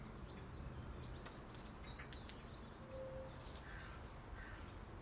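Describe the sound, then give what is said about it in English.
A few crow caws ring out in a garden set well back from the road, over a steady low rumble of road traffic, with faint smaller bird calls scattered through the outdoor background. “Familiar sounds as well. Of the birds, of course.”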